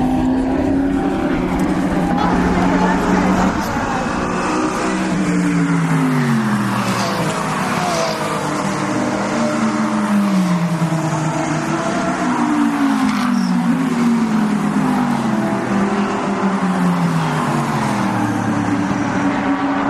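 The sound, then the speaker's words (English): A steady stream of race car engines rolls past at moderate pace behind the pace car, not yet racing, their droning pitch dipping as each car goes by, one after another, loud throughout. “They're still following the pace car, but this is going to be a good one.”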